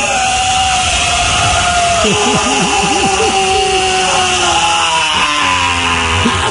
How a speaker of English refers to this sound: That's a falling out of a building scream